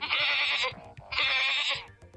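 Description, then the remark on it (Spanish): A goat bleats twice, played by a voice assistant (Google) as part of a joke: two loud, wavering cries, each lasting under a second with a brief pause between them. “Bueno, pero te hace hasta los sonidos, no está mal.”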